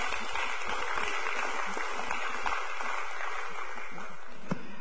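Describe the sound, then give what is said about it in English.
A crowd claps its hands for tithes and offerings in a steady, dense wash of applause that holds at an even level for several seconds, with no voices standing out. “Clap your hands for tithes and offerings, please.”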